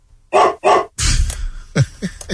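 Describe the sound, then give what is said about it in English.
A dog barks twice, loud, in a TV studio during a live broadcast, then a burst of rustling noise follows and a few shorter, sharper yips come in quick succession. “Because Mike's live on TV and you don't hear the dog bark.”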